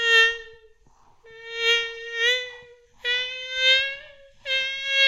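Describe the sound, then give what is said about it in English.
A voice mimics a mosquito's whine: a high, nasal, steady buzz held in four loud stretches with short breaks between them, and no other talking. “it's gonna start sounding like a mosquito buzzing in my ear, and I want that feeling.”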